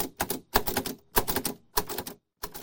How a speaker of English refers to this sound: A special Braille typewriter she uses for work and for her poetry.